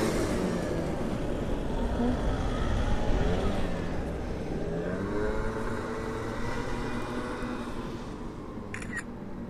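Someone starts a moped right beside the speakers; its loud buzzing engine drone rises and falls in pitch as it revs, with a brief sharp click near the end.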